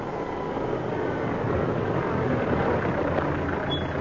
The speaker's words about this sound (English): there's a car coming. Oh, I'll try and stop him.